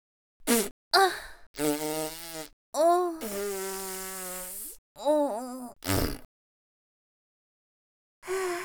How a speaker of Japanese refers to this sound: あ、おなら出た。ご飯たくさん食べさせてもらったからお腹がガスでいっぱいになってる。おならこくね。